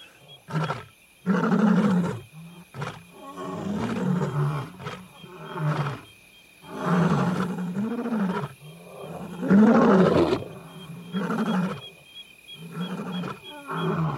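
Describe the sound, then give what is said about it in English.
Three lions of the same pride roar in a series of deep, loud, drawn-out calls with brief pauses between them. The powerful roars overlap and answer one another as the lions communicate, not aggressively, on a pitch-black night with faint moonlight. One lion is about 20 yards away. “Those are not aggressive roars. They are communication roars.”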